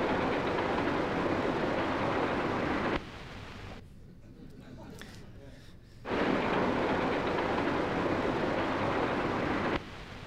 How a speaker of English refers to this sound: And this is a train background. This is during the train scene. Now, the train has a nice printer fade for the fade out of the scene, but here's how the audio fades out.